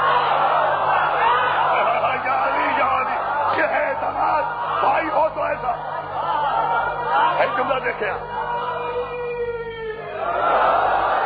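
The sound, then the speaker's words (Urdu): A large audience shouts a religious slogan together in response, a loud, sustained roar of many voices, rising and swelling in unison for several seconds before a brief lull and another surge. “دیکھیں نانا میرے بھائی نے نہیں نہیں جتنا تاریخی نعرہ میرے بھائی نے لگایا ایسا جواب نہیں آیا.”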